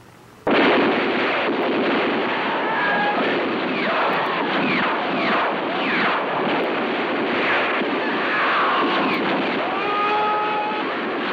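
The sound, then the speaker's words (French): A loud, continuous barrage of gunfire, dense enough to form a steady roar, with bullets whistling past in quick rising and falling streaks throughout. “Ah, ça part dans tous les sens, là, de tous les côtés, les balles sifflent.”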